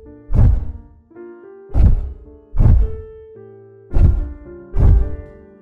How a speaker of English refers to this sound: The bigger the scale of the animal, the slower the tempo of its heart, like the elephant, which clocks in at a chill 30 heartbeats a minute.